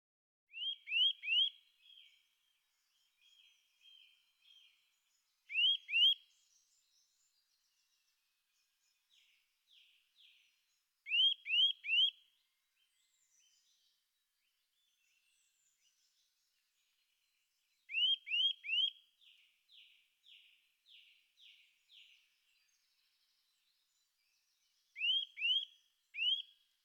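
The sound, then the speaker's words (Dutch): A resident bird of old deciduous woodland and parks with tall trees sings repeated phrases of three or four loud, high, upward-sweeping notes, separated by pauses and softer, quicker twittering in between. No voices. “De zang kan u horen van december tot in juli.”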